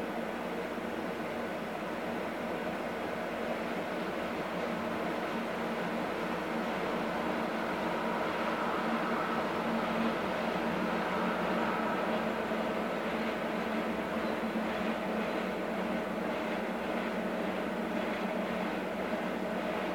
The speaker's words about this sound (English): So like a couple times, like it starts to come through and then it doesn't. The trains that come by here are weird. Is that it?